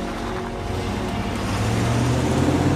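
A patrol car engine rumbles steadily, its low droning hum growing slightly louder as the car reverses and drives away. No voices are heard.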